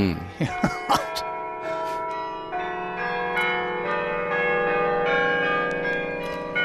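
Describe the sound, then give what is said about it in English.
A carillon of church bells dating from 1658, designed by someone called Francois, rings out a melody, overlapping metallic tones sustaining and blending, with a few sharp strikes at the start and a steady, resonant ring throughout. “Those bells are from 1658.”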